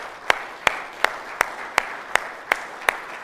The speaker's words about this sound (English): If you are a mother, would you please stand? Let's give a round of applause to these ladies.